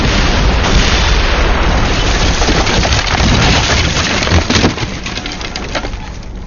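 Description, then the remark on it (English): A barrage of grenade explosions raining down around a hellhound: loud, continuous booming rumble with sharp cracking bursts piling over one another, easing slightly toward the end. No voices. “Now the Grens flew, raining down around the beast.”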